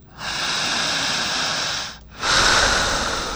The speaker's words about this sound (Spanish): Siga respirando. En casa, si quieren hacer el ejercicio, jalen el aire igual que ….